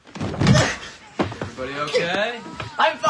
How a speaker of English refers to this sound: Oh, ow! He falls out of bed.